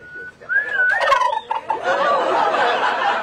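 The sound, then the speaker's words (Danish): A turkey gobbles loudly, a rapid warbling, rattling call that rolls on for about three seconds with no one talking over it. “Vil du give os et gobble?”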